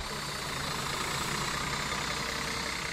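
tour bus engine idling

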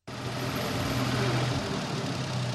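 tractor engine idling

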